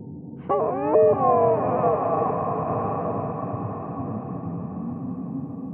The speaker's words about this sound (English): I try to make sense of the otherworldly sound. It's like an eerie mixture of a deer moaning in pain and a pregnant woman in the throes of the birthing process.